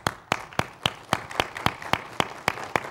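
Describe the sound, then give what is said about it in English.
An audience applauds, a dense patter of clapping with one set of sharp, evenly spaced claps standing out in a steady rhythm throughout. No one speaks. “That's worthy of a round of applause. Would you join me in doing that right now?”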